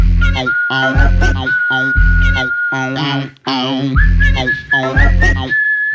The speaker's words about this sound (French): soudain j'ai l'audace de siffloter.